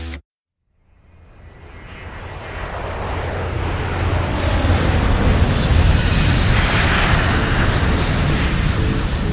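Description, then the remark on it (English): A private jet's engines swell from near silence into a loud, steady roar that holds constant, with no one speaking. “I've never flown in a private jet, I've never been to LA, and I've never gone to a listening party.”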